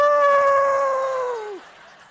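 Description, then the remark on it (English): A person imitates a wolf howl, holding one long, steady, mid-pitched vocal tone for about a second and a half before it slides downward and cuts off, followed by quiet. “I actually walked around doing a wolf sound there for a little bit at our house, and I'm so tempted to do it, but I won't.”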